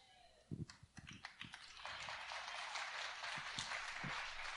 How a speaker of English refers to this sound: Thank you for all 10 of you that clapped about that, because you need that.